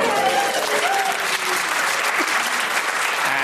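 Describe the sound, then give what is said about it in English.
A crowd applauds steadily with dense, sustained clapping at a fairly loud, even level throughout, with a few faint voices and whistles threaded through the noise. “Because, yeah, because no, during the applause, I could hear the swishing of elbow patches.”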